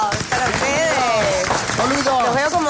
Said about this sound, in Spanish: ¡Aplausos!